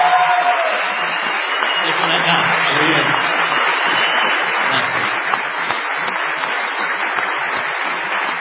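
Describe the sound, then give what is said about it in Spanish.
Sustained, dense ovation from a TV show audience as the host's companions for the night are introduced, steady and loud for the whole stretch, with faint crowd murmur and a brief voice-like tone early on beneath the clapping. “Esta tremenda ovación solo es sombra de la sombra de la que va a recibir el artista antes llamado ….”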